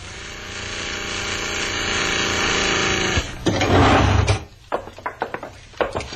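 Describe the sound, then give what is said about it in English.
A steady mechanical hum of an elevator motor drones for a few seconds as the car is called down from the second floor, then a loud rattling rush as the car arrives, followed by a series of sharp metallic clanks and clicks of the gate. “Someone's got the elevator up on the second floor. Ring the bell and bring it down.”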